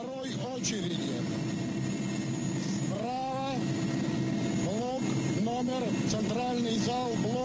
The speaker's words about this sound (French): Cet hélicoptère est en train de survoler Tchernobyl, qui vient d'exploser quelques heures auparavant.